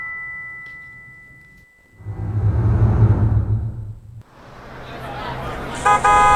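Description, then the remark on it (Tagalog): A jeepney's engine rumbles loudly as it pulls up, with a steady horn tone early on and a sharp, bright honk near the end. “Tara na, yun na yung jeep!”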